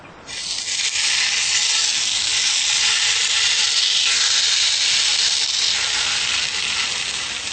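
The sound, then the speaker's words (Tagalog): An eggplant omelette, just placed into the pan, sizzles steadily in hot oil, a loud, continuous crackling hiss that starts abruptly and holds for several seconds with no talking. “Nating uminit ang mantika. Okay, ngayon ay ilalagay na natin ang eggplant omelette.”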